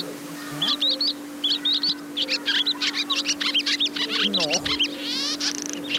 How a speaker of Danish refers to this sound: Vi kan se en landsvale. Den siger...